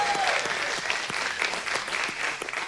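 An audience claps together in a steady round of applause for a volunteer, many hands producing a dense, continuous patter that stays fairly loud throughout.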